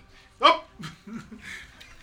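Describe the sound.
A man makes grunting and panting noises for a music track: one sharp, loud grunt, then several softer, breathy pants and low grunts in quick, uneven succession, with no talking.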